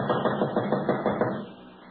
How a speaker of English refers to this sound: This is it right here. There's a streak of light under the door, too. Go ahead and knock.